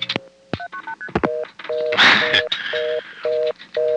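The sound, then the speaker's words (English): A steady N3 carrier hum on a phone line after dialing 1 from a coin phone in Wellfleet, Massachusetts, broken by quick bursts of paired multifrequency signaling tones sending the last three digits of a phone number, then a noisy burst and a rhythmic series of repeating two-tone beeps; no voices. “Those MFs you heard were the last three digits of my number”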